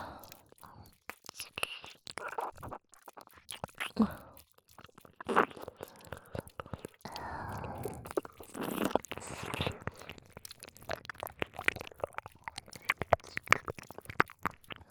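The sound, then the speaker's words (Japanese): Wet mouth sounds of licking and nibbling an ear: soft smacks, squishy crunches and chewing-like clicks in an irregular stream, with faint whispering breaths mixed in. “あなたのお耳、しょっぱいわ。”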